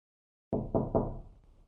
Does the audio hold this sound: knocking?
yes